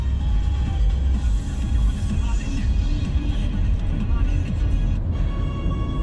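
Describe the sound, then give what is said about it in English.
A car speeds through the streets of Moscow late at night, its engine and road noise forming a steady low rumble with faint higher hiss and murmuring background sounds throughout. “And so it's a great relief, quite late at night now, to be speeding through the city.”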